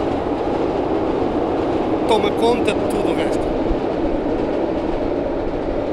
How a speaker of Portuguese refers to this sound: Que música é esta que ecoa da ponte 25 de Abril? Olha, repara no som dos carris, ferro com ferro.